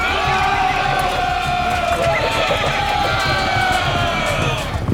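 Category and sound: animal, horses galloping and neighing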